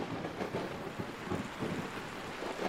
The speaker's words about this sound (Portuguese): A quietude e o divaneio são interrompidos pela chegada da chuva e do vento.